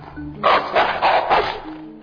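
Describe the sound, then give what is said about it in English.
A dog barks four times in a quick, steady run, fairly loud, with a faint low hum before and after the barks. “Well, then, whose dog is that?”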